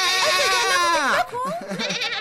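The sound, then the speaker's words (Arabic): A goat bleats in a long, quavering cry that wavers and slides down in pitch, then gives a few shorter, rougher bleats right after, loud and clear. “صدقيني أيتها المعزة، صدقيني.”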